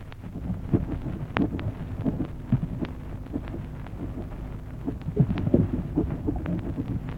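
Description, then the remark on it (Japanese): Lotus flowers opening on Shinobazu Pond in Ueno, recorded with a special device: soft, irregular pops and faint clicks scattered over a low, steady rumble and hum, with no voices. “これは特殊装置で収めた忍ばず池の蓮の花が開く音です。”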